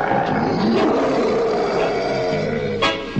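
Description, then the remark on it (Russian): A live lion in a cage hoisted by cable at pier number two onto a Turkish steamer roars loudly, one long, deep, rumbling roar that holds for about three seconds before breaking off with a rasping exhale. “Причалу номер два привезли живого льва, клетку тросом подцепили, Ира крикнули, и вот лев по воздуху плывет на турецкий пароход.”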